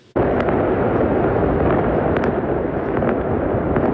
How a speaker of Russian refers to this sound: В секторе Газа праздничный фейерверк. Жители отмечают подписание соглашения о прекращении огня с Израилем.